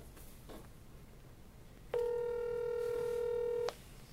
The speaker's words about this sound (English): So let's get him on the phone right now, if you don't mind. Yeah. It's ringing.